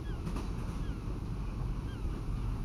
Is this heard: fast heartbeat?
no